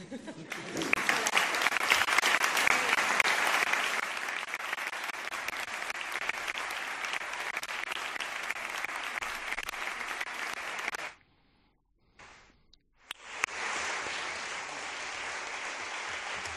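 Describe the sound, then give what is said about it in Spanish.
Sustained audience applause after Cristian Álvarez's farewell speech, dense and steady for about eleven seconds, breaks off briefly into near silence, then resumes just as strongly to the end. “Aplausos.”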